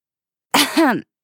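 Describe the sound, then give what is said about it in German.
A woman clears her throat in two quick rasping pushes, the second slightly stronger, voiced and gravelly, heard alone against silence. “Räuspert sich … vorne in der Aherde.”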